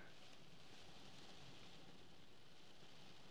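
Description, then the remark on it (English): Soft, steady rain patters on the windscreen and roof of a car parked in a lay-by on the moors high above Nidderdale, in mist, a dense continuous hiss with faint scattered taps, heard from inside at low volume with no voices. “The rain is pitter-pattering on the windscreen and on the roof, and the mist is engulfing me.”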